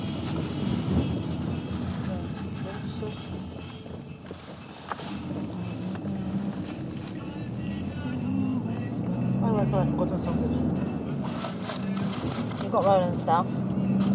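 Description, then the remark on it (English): A car engine runs steadily throughout, a continuous low rumble, with brief muffled voices and a few high chirping sounds breaking in over it. “What's going on with this car?”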